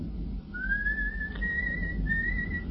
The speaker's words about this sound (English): The coachman is whistling. You cannot hear him, Mary. But he is whistling for us as we go together on our last journey.